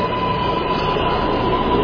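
A New York City L train subway rumbles steadily in a station, a loud, continuous mechanical roar with a faint high whine running through it and no voices.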